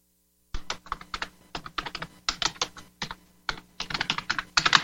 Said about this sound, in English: Let me look that up real quick. I know you hear the typing. Don't worry about it.